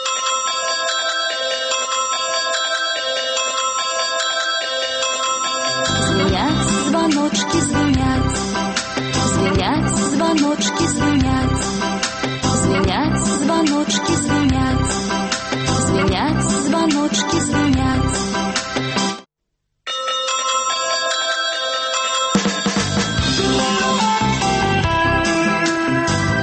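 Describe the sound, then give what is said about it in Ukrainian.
A bright, tinkling telephone ringtone melody, the bells of a new Radio Svaboda program, plays continuously, steady and fairly loud, with layered chiming tones and a low rhythmic pulse joining in, briefly cutting out near the end before resuming. “Слухали звоночки, новую передачу «Свободы».”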